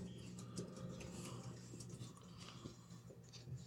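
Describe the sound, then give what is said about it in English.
Quiet, irregular clicking like fingers typing on a keyboard, a scattered run of soft taps over a steady low hum, with no voices. “Oops, I'm typing things somewhere.”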